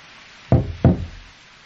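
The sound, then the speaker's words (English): Two firm knocks on a wooden door, evenly spaced about a third of a second apart, fairly loud, each with a short low resonant thud and quick decay, then silence. “I knocked twice, but you didn't answer your door.”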